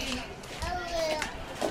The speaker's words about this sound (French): On rentre dans une petite ruelle. Ah. Ok. Il y a des enfants qui courent.